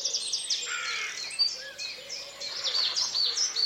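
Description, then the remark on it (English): Many birds chirp and trill at once in a dense, overlapping chorus, high and bright, with a steady layered texture and no voices present. “The birds were singing.”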